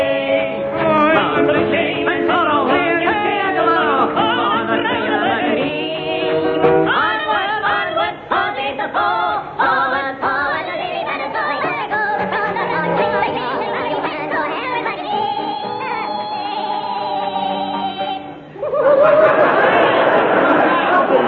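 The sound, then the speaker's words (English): A crowd of men marching down Whitehall, chattering, many overlapping voices forming a steady, busy murmur that runs the whole way through, briefly dipping before a denser burst of talk near the end. “There's a crowd of men, steaming men, marching down Whitehall.”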